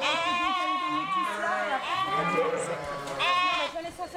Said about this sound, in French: Oh, ma pauvre. Bon, bah, c'est une brebis qui se met à gueuler à 23h, on part pas à 23h, quand on partira quand elle aura fini. La tête, non, elle est coincée, la tête.